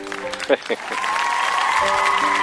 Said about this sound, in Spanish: Exacto, vamos con la segunda pausa y por eso vamos a invitar al público grabado que vamos a hacer un aplauso de lata. Vamos allá.